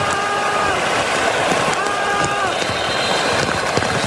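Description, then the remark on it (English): Heavy rain hisses in a dense, unbroken wash, with scattered sharper patters, picked up by a parabolic microphone during the fourth quarter of a Bears football game, while a crowd murmurs underneath and faint sustained tones drift through. “I have literally never heard the parabolic mic pick up the rain the way it did in the fourth quarter.”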